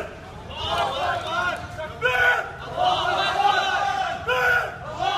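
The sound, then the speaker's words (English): A large crowd in a New York neighborhood chants "Allahu Akbar" together, many voices shouting the phrase in loud, repeated surges with brief dips between, energetic over a busy background of murmuring people. “Riled up, the crowd starts chanting Allahu Akbar.”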